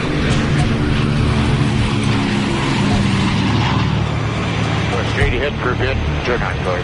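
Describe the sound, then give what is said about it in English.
Steady, loud droning of a DC-4's propeller engines in flight, a continuous low roar with throbbing tones, with voices briefly audible over the engine noise near the end; the plane is headed north to Coppermine with a load of building supplies. “We told him, come on, we'd throw him in the DC-4 and start getting him trained, just to get him used to the airplane.”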